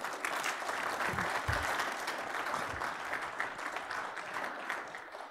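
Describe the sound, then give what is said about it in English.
Sustained applause from a church audience, a dense crackle of many hands clapping at steady volume for several seconds, with a few low thumps early on and no talking over it. “Let's give these guys one more hand.”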